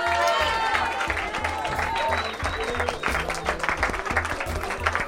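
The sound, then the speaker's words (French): An audience applauds steadily for the teams of the 824 heures, thanking them for their hospitality, a dense wash of many hands clapping, with some crowd murmur and a few whistles or cheers mixed in throughout. “Un immense merci aux équipes du 824 heures pour leur accueil, qu'on applaudit s'il vous plaît.”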